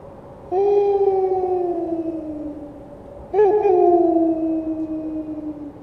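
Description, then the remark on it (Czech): Two long, mournful howls of a despairing evil wolf at night, each beginning with a strong rise and then slowly sliding downward in pitch as it trails off, with a brief break before the second begins. No voices are heard. “Vytí zesílilo. Byl to táhlý a osamělý zvuk, plný melancholie a zoufalství.”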